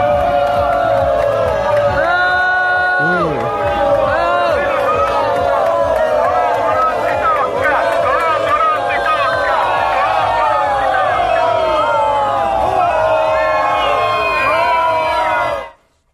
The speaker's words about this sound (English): But everywhere he went in the rain, and it was a heavy rain yesterday, he got the Bronx cheer.